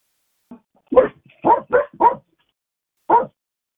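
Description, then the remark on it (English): A dog barks about five times: a faint yip, then a quick run of four sharp barks, a short pause, and one final bark. “Sound like a dog barking.”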